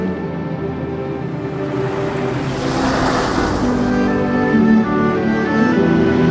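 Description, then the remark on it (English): A car engine drones steadily, its rumble swelling for a moment as it passes over a smooth surface, with a faint rushing wash of wind or water behind it, as a chauffeur drives the car across Westminster Bridge at night. “chauffeur crosses Westminster Bridge at night time.”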